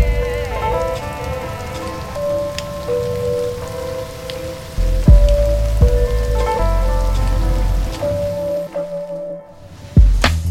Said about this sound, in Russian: Удивительно, такой дождь, как в фильмах.